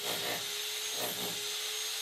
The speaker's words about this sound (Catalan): Gairebé una hora després d'escoltar renous de martells, tornavisos i filaberquins